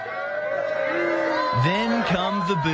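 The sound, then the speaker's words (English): A crowd of people at an event at Bondi Beach, Australia, raise their voices together into sustained, drawn-out booing and yelling, loud, swelling into overlapping bellows and shouts that continue throughout. “This event, and you can hear people sort of on the edge screaming, and you can kind of see that security is handling people, and then come the boos.”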